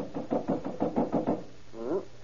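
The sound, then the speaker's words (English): A quick series of about eight firm knocks by police officers on the locked door of the Tong headquarters in a steady rhythm, followed after a short pause by a brief voiced sound. “Here, I'll try the door. Locked.”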